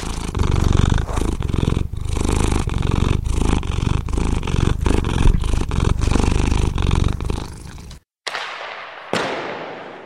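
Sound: cat purring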